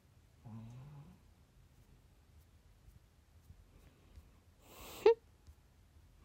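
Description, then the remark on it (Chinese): A sleeping pet dog, Taotao, snores quietly, first a low, droning rumble, then after a pause a sharper, louder snort. No one speaks, and only faint background noise fills the gaps. “你忘了你打呼噜的时候了？”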